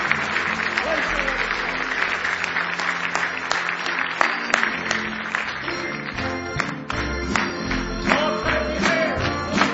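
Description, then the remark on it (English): An audience at a church camp meeting on a Wednesday night claps their hands in praise of God in a loud, continuous burst of applause lasting the whole stretch, dense and steady, with some voices mixed in beneath the clapping. “Now give Him another big hand clap of praise.”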